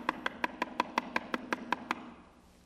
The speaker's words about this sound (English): And I would drive up to her home, and I'd come up to the door, and I'd knock.